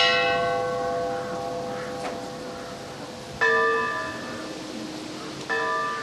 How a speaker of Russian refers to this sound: 27 июля исполнилось 173 года со дня гибели поэта. Именно столько раз прозвучал в этот день церковный колокол по числу лет, прошедших с роковой дуэли у горы Машук.